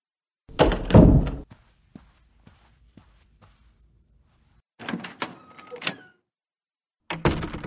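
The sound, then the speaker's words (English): A door is thrown open and bangs with a loud, heavy thud, followed by faint ticking clicks, then further clattering bumps and knocks, with no voices. “I wasn't the one who threw the door open like some wild banshee.”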